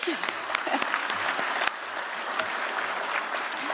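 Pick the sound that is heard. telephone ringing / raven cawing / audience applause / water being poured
audience applause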